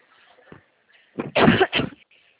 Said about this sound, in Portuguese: Eita, esse tempo não tá facilitando, né? As tosse tá vindo de um jeito. Essa mudança de clima toda hora é tempo refrigerado, é horrível.